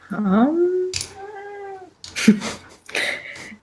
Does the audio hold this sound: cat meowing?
yes